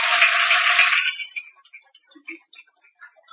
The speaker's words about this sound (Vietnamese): Cho nên nếu thấy rằng là việc biết ơn và đền ơn cha mẹ, ơn thầy cô giáo, ơn các bạn bè và ơn tất cả chúng sinh là việc có thể làm được, thì hãy dành một tràng vỗ tay để cam kết làm được đó.